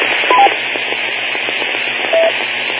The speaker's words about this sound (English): A lot of static on the transmission, partially readable. Maybe if you try to speak a little louder or closer to the microphone, maybe I can hear your call a little better.